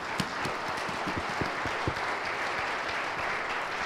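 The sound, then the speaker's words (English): An audience applauds: a dense, steady wash of many hands clapping at an even level for a few seconds, with a few sharper claps standing out and no voices heard. “And let's give our team a round of applause for their awesome work today.”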